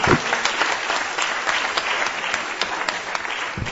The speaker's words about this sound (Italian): Benissimo, un applauso a loro.